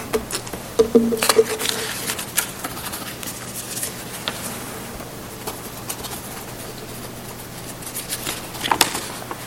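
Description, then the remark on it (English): Sheets of paper rustle and crinkle in bursts as a preacher shuffles through sermon notes looking for a lost point, with a few sharper crackles near the start and end and quiet pauses between. “If you can find some paper that won't shake, I would love to have it.”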